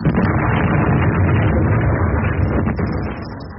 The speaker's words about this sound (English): Central Los Angeles was rocked by another car bomb explosion last night. Dr. Martin was killed when he started his car outside the General Hospital.